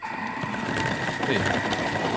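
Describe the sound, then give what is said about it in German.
A steady, loud motorized whir from an electric food chopper running continuously, with a buzzing hum and some rattling as vegetables are chopped while making a soup. “Jetzt zerkleinere ich das.”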